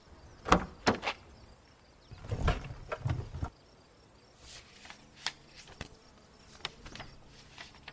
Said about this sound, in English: I shifted through tons of papers.